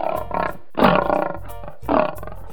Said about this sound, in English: Lion roared.